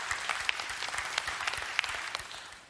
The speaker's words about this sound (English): Oh, that's reason enough to clap. That's reason enough to be excited.